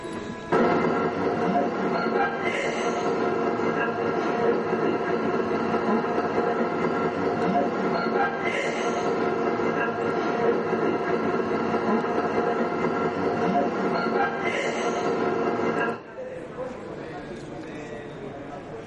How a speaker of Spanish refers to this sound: Y conseguimos hacer una ronda de preguntas y cuando llegamos a casa y analizamos la grabadora, escuchamos esto que vaya a ver, que es como una persona cuando utiliza una máscara de oxígeno en la respiración, el... Lo vayas a escuchar.